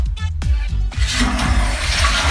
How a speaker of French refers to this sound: Ah, voilà. C'était un petit bruit de chasse d'eau. Vous l'avez reconnu. Réconfortant, cosy.